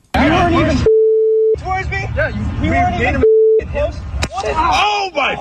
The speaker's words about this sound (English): just listen, make sure I got all the beeps properly. I think I got them.